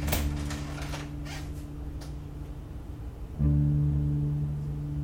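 An apartment door is opened, with a few soft clicks and scraping creaks early on, over a steady low droning hum that swells louder toward the end. No one speaks.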